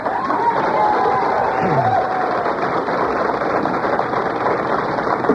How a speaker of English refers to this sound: Let's hold down the applause. Thank you. I appreciate it, but let's get through this.